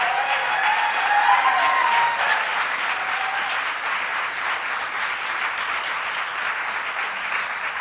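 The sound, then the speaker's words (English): A large crowd applauds in welcome of advocates, with steady, dense, continuous clapping, a few whistles and cheers rising early on before the applause settles into an even, sustained roar. “Let's give a warm welcome to all the advocates who have worked so long and so hard for so many years.”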